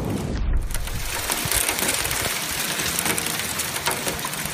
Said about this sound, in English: thunder sleet in the metro. That's what Nick Benson heard in Burnsville yesterday.